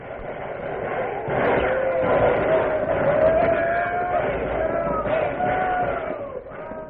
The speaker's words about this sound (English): Listen to the sound of the buffalo stampede.